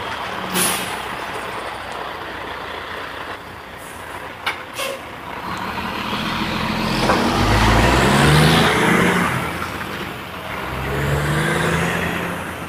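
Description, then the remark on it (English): A heavy dump truck rumbles past, its engine building to a loud, low roar with gear shifts and a brief hiss of air brakes before fading slightly, then surging again. “Try to talk over dump truck.”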